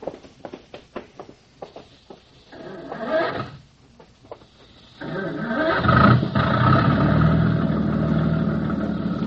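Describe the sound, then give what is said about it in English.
A few sharp mechanical clanks and a brief cranking sound, then a boat engine catches and settles into a steady, fairly loud idle rumble, with no voices. “You handle the engine okay?”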